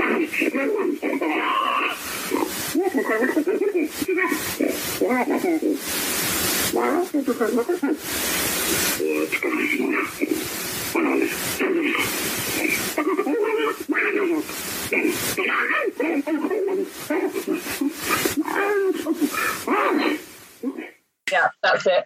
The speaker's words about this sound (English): That so that it was that quick monkey chatter there going back and forth.